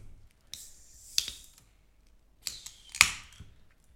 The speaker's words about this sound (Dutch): Maar het is inderdaad wel het laatste biertje. Hij zit in een blikje. Gewoon een normaal, wat zou 33 centiliter blikje. Blikje, zei ik. Blikje. Blikje. Een blik. Ik ga hem inschenken.